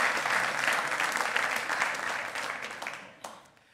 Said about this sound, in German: Ich möchte alle Väter mal, dass man für alle Väter einen Applaus gibt, die in diesem Raum sind. Nein, an alle Väter, das gilt euch.